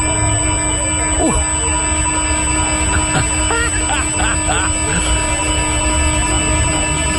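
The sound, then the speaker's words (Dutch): A stolen iPhone's anti-theft alarm, switched on by the store's system, blares continuously from phones lying on the street: a loud, steady, piercing electronic tone that holds unbroken for the whole stretch, with faint murmuring underneath. “Want wat er gebeurt is, ze hebben een systeem en dat zetten ze dan aan en die laten ze constant laten ze een hard alarm horen.”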